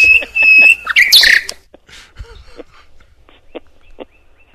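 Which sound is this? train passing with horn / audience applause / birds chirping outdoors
birds chirping outdoors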